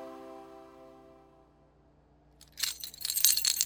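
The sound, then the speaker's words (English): A sustained ringing tone fades to silence, then a set of keys being waved in someone's face jingles in quick, irregular bursts of bright metallic clinking, growing louder toward the end. No one speaks. “Why are you waving your keys in my face?”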